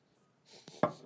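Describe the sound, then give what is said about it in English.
A freshly poured drink, filled half full, fizzes with a microphone dipped into it: a soft, crackling hiss rises partway through, broken by one sharp knock as the mic enters, then keeps sputtering. No one speaks. “I'm just dipping the microphone in there to so you hear the fizz.”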